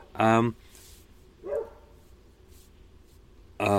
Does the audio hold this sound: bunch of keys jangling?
no